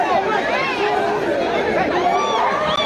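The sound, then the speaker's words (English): A dense crowd of mostly Haitian migrants trying to rush an asylum office building in Mexico, many voices shouting and talking over one another, loud, a constant agitated hubbub with no single speaker standing out. “At an asylum office in Mexico, a crowd of mostly Haitian migrants trying to rush the building, some having waited weeks for an appointment.”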